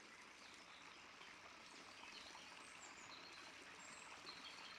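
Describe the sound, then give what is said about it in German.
A soft, steady babbling of a forest brook heard very faintly from inside a cave, water trickling continuously at low volume, with a few faint high chirps drifting in the background. No voices. “Du hörst noch ganz leise das Plätschern des Baches.”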